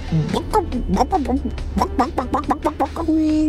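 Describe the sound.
A person imitates a chicken with a quick run of about a dozen clucking syllables, fairly loud, ending on a longer held note.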